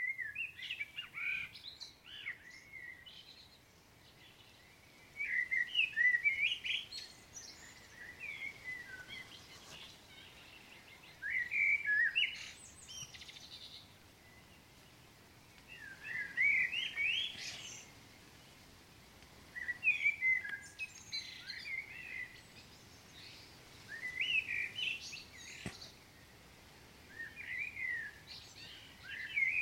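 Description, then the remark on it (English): A blackbird sings alone at 3:45 in the morning in a farm yard during the dawn chorus, in full song right overhead, delivering clear, fluty phrases every few seconds with short pauses between them, distinct over a faint background hush. “doing the rounds in the yard in time for the dawn chorus, this time soloed by a blackbird”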